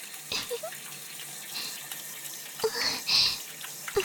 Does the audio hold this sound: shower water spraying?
yes